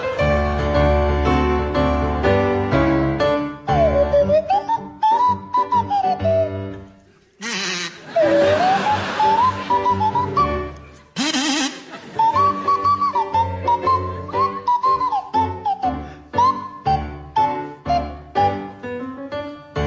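A buzzy kazoo and a sliding swanee whistle play a bouncy tune together over steady accompaniment, the whistle swooping up and down, with a brief noisy break partway through.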